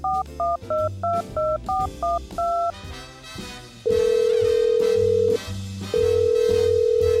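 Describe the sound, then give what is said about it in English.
A quick run of about eight touch-tone keypad beeps dials a phone number to call someone, followed by two long, steady ringback tones with a short pause between them, clear, with no talking. “I will call him right if now.”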